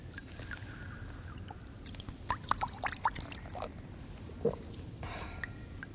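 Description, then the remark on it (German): Water pours and splashes steadily at an old well over a low rushing wash, with a cluster of sharper drips and sloshes in the middle, moderately loud, no voices. “Alter Brunnen.”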